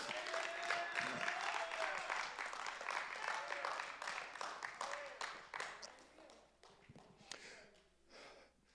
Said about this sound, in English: If there's anybody in the building that can admit that God has never let you down, I dare you give him a hand clap of praise.